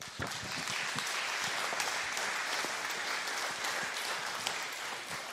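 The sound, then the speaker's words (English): Sustained audience applause for the event's speakers: a dense, steady wash of many hands clapping at an even loudness for about five seconds, with no voices standing out. “Can we just give it up for our speakers again?”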